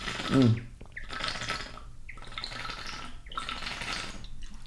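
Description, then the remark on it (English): Water pours into a Purist metal bottle lined inside with a thin layer of glass, in several splashy bursts separated by short pauses, with a rising hollow tone as it fills. Moderately loud, with no talking. “I'm going to grab some water.”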